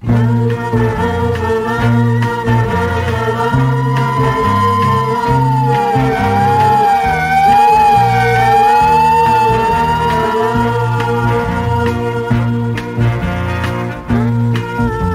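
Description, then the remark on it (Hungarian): A loud ambulance siren wails continuously, its tones rising and falling as it speeds past, with steady low rumbling underneath and no one speaking. “Utolsó beszélgetésünket egy száguldó mentőautó szirénája szakította félbe.”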